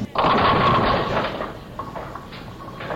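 A bowling ball crashes into pins, knocking over 8 and leaving pins 7 and 10 standing, with a sudden loud clatter, a dense rattling burst that fades over about a second, followed by a few scattered lighter knocks as the pins settle.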